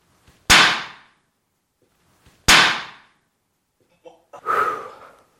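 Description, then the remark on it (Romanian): A smartphone dropped by hand from a height of 1.5 metres lands on its corner on a hard floor with a sharp, loud crack, then a second identical hard impact a couple of seconds later, each fading quickly, followed by a softer rattling clatter. “Deci îi dăm drumul de aici, 1,50. Ăsta este telefonul.”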